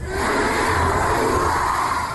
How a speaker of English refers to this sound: So the whole crowd screamed out